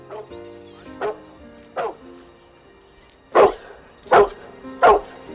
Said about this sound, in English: He looks up at Hooch barking through a window. Hooch puts his paw on the metal bars.